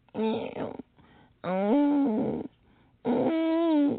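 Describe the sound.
Three drawn-out, nasal whining cries from an old, droopy-eared, fat-faced hound dog lying on a porch, each fairly loud, rising and wavering in pitch, separated by short quiet pauses.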